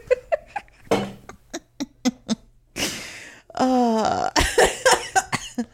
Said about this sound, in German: Oh. Oh, vielleicht muss ich immer noch manchmal husten zwischendurch. Hm. Ist der Raucher husten? It's still not gone.